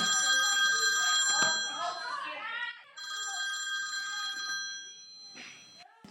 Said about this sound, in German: Plötzlich klingelt sein Handy.